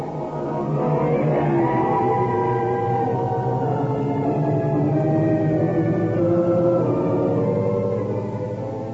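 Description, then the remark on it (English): A long, drawn-out creaking door, the signature sound of the radio programme The Creaking Door, groans slowly open, its strained, wavering pitch sliding and warbling for several seconds with a low rumble underneath and no voices. “The creaking door.”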